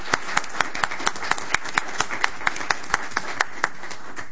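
A round of applause with sharp, fairly even claps repeating at a steady rhythm for several seconds over a soft background hiss, moderately loud, with no talking.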